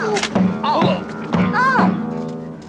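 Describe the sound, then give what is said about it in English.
A flight attendant walking through a plane with a borrowed guitar raised knocks it into several passengers' heads in quick succession: a series of hollow thunks, each followed by short pained yelps and groans from different voices. “She raises the guitar and bumps the passengers' heads as she walks.”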